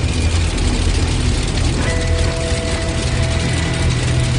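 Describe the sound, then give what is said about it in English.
A loud, steady rumble of a DC-3's two Pratt & Whitney air-cooled radial piston engines, with a deep throbbing drone and a faint tonal whine emerging partway through as the plane taxis along the ground at night. “This DC-3 is powered by 2 Pratt & Whitney radial piston engines developed in the 1930s.”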